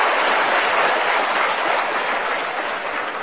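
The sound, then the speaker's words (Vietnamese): A crowd of students at a retreat claps steadily for a few seconds for a young man's answer, a dense, even wash of many hands applauding together, with no voices over it. “Hay quá, cho anh chàng pháo tay đi.”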